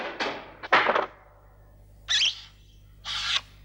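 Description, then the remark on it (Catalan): A sharp billiard break starting a game at the Red Ribbon Army headquarters, with a clattering burst of colliding balls, followed by two separate knocking clunks a second apart as balls drop into pockets, fairly loud; three balls are potted at once. “Algú enceta una partida de billar i fica tres boles d'un sol cop.”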